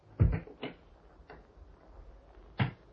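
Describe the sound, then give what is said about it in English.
A clock ticking softly, a handful of dry, sharp clicks spaced somewhat unevenly over a few seconds, with no voices and only faint background hiss between the ticks. “Listen as the clock moves on.”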